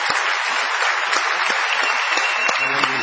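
A crowd applauds steadily, a dense wash of many hands clapping at an even, fairly loud level throughout, with scattered sharper claps standing out from the mass.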